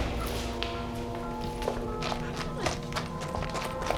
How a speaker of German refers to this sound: doch bekamen sie niemanden zu sehen und die Schritte verhallten bald.